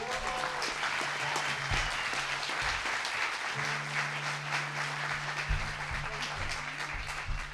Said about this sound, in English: Give a big round of applause for Laura.